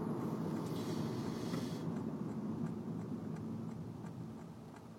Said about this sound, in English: Okay, this truck is going very slow.